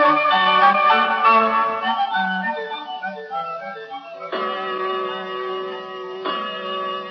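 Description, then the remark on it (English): A clock chimes a short melodic tune, then begins striking three o'clock with slow, resonant bell tones that ring out and sustain. It is clear, with no talking. “Oh, 3 o'clock.”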